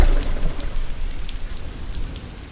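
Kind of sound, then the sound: nature, rain falling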